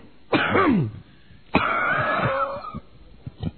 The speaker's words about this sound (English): What? Nothing. I really had a real cough there. Okay. I wasn't trying to mute you out. I had a real cough.